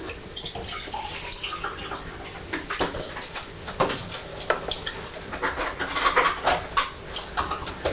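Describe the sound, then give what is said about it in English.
Rubber-soled slippers peel off a kitchen floor with irregular sticky snaps and squelches over a steady background hiss. No one speaks. “It's the sound of my slippers sticking to the kitchen floor.”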